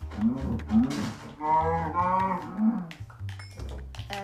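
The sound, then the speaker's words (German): A cow moos loudly, a long drawn-out bellow with a rising, wavering tone, followed by a couple of shorter lowing calls. “Die Kuh hat ganz schön laut Miut. Also Miau. Was für Miau? Gemut meine ich, ja.”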